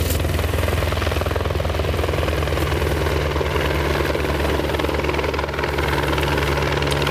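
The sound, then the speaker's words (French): A firefighting helicopter flies overhead carrying a Bambi Bucket with about 700 to 800 litres of water, the rotor's loud, steady thumping drone and engine whine filling the whole stretch without a break and no voices. “Il venir avec le Bambi Boucrette, c'est environ entre 700 et 800 litres d'eau dedans, qui est apporté maintenant.”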